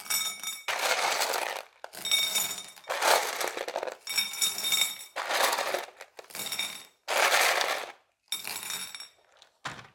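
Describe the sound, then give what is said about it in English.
Gravel is poured in to fill little gaps, in about seven short bursts, each a loud, gritty rattle with bright clinks, separated by brief pauses. No one speaks. “And these are going to be represented by, excuse me, this gravel. So I'm just going to pour them in and fill the little gaps.”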